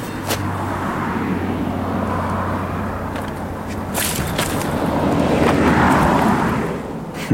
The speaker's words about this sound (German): Warten, Auto kommt und weiter. Noch ein Auto. Weiter. Ups, noch ein Auto. Wieder an die Planke drücken und weiter.